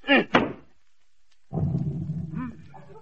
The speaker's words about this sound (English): Didn't y'all say beat it? Oh, I meant the carpet.